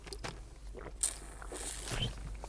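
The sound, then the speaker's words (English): Someone quietly sips a drink of water, with soft mouth and swallowing noises and light handling clicks over a couple of seconds, no talking. “Let me take a sip of water here.”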